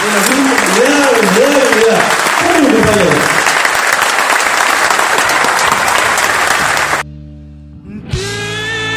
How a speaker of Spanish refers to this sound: por momentos, entre la emoción y los aplausos, hasta no se llegaba a distinguir lo que decía.